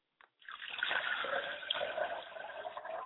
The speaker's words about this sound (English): I pour libations to the west, and I say, …, come and sing us another sweet song.